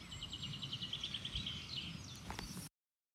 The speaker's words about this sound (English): And also check out those birds.